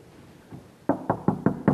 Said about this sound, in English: I want you to notice something else about this guy over here that represents us all. He hears the knock.